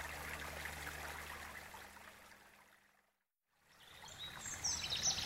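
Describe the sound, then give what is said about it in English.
Steady trickling water from melted ice runs, cuts out briefly for a moment of silence, then resumes, with faint bird chirps joining near the end. “Look! It's just water now.”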